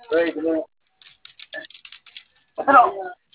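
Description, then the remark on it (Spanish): A quick run of light keyboard taps clicks away between bits of conversation on a hot day, with voices talking before and after the typing. “Este teclado que está ahí.”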